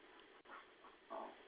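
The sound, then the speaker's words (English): Dogs whimpering and panting, with short breathy bursts and a higher whine toward the end, fairly quiet over a low background hum. “Dogs, calm down.”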